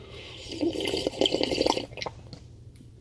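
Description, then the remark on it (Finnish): Someone loudly slurps coffee: a wet, hissy sucking sound that swells for about a second and a half, then trails off into a few faint sips and small clicks. No one speaks. “Nyt ryystetään kahvia muuten ihanasti tähän loppuun.”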